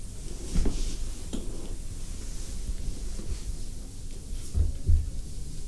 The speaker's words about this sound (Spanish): Quizás pudiera cerrar un poquito esa puerta.